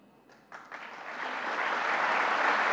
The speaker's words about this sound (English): A little bit of applause there. No applause at all when he spoke of a free and open exchange of ideas.